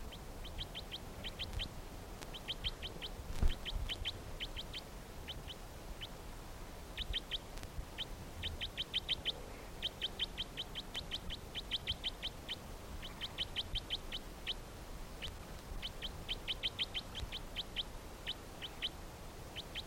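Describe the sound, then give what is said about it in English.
A bird, recorded as bird number 321, calls repeatedly in quick bursts of high, sharp chirps, with short pauses between clusters, continuing steadily over a soft, low background hiss. No one speaks. “Recording for bird 321 again.”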